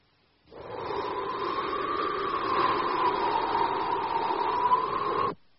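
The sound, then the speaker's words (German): A steady rush of wind blows for about five seconds, a smooth hissing whoosh that swells slightly in the middle before cutting off abruptly, with no voices. “Ja, das ist der Wind.”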